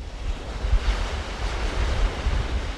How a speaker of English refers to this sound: On the coast, murky waves lap the dark volcanic sand of this barren beach as warmly dressed fishermen in rubber boats cast nets into the water.